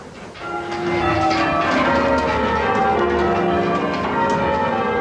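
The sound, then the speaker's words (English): A peal of church bells rings out in rapid, overlapping succession, tones tumbling over one another in the methodical sequence of English change ringing, from a 1970s British television version of The Nine Tailors, loud and sustained with no voices. “One is called English change ringing.”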